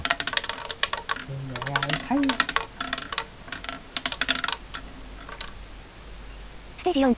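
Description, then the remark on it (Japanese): A roulette wheel spin sound effect, turned up louder and spun to pick the next three game stages: a fast run of sharp, dry clicks that comes in uneven bursts and then slows, with a few short voiced sounds mixed in. “さっきちょっとルーレットの音がちっちゃかったのでルーレットの音を上げました。”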